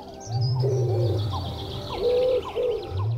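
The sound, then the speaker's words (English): Low, throaty pigeon cooing rolls in two drawn-out phrases, fairly loud, with smaller birds chirping and twittering in the background. “that bird is the pigeon, as she explains now.”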